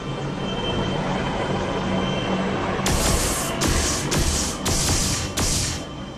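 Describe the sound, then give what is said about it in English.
A steady, heavy aircraft engine roar drones throughout as the craft comes down, joined midway by five sharp, hissing bursts of high, rushing noise in quick succession. “They're landing.”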